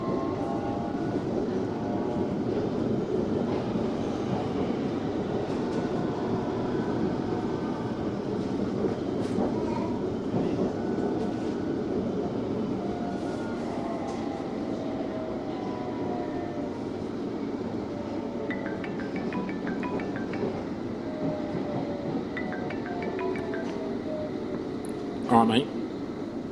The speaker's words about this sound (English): Yeah. No, I'm on the train. I'm on my way there.